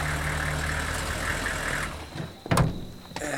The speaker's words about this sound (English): What is this now? That's a GC truck.